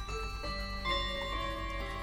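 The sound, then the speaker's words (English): A clock ticks steadily at an even pace, fairly quiet, over a constant faint tonal hum, with no voices present. “My other one I was given.”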